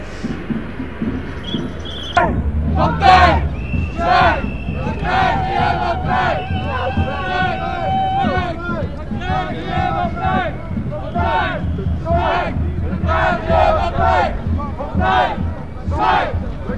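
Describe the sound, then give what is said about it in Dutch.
A large crowd of street demonstrators, slowly winding toward Stobra, shouts and chants over a dense roar of voices. The noise swells after the first couple of seconds and stays loud, with raised cries poking out repeatedly. “Langzaamaan slingert de demo zich in richting Stobra.”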